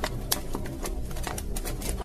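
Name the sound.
fire crackling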